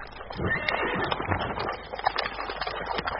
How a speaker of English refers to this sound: It looks like your horse is hungry, Li Hua. He apparently has a soft spot for that clump of flowers.